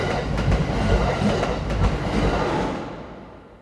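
A metro carriage at evening rush hour rattles steadily along the rails, a dense low rumble with faint rhythmic clicks, holding loud before easing off in the final second. No one speaks.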